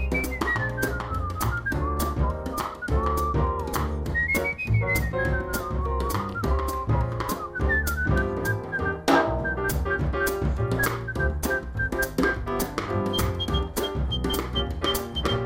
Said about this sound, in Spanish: Antes era belleza y mal rollo, esto es belleza y más belleza, ¿no? ¿Cómo se puede hacer esto silbando? Pues no lo sé, te ahorras un dineral en instrumentos.